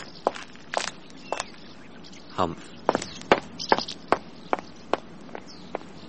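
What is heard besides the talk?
footsteps walking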